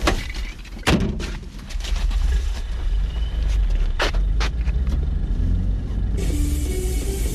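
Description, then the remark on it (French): People climb into a car amid rustling and shifting, with several solid thuds of car doors shutting, all over a steady low rumble in the background. “On monte dans la voiture.”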